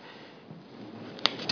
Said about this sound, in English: That's the rain.